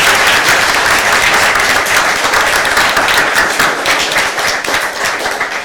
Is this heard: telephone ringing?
no